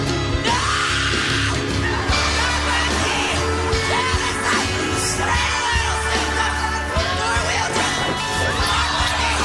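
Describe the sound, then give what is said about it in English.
A large crowd roars with sustained cheering, yelling and whoops, a dense unbroken wall of excited voices lasting the whole stretch with scattered individual shouts rising above it. “The crowd is delighted.”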